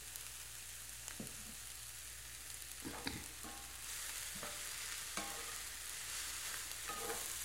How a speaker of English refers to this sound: We're going to take a little oil to cook. The sizzling now is when the cabbage is losing its water.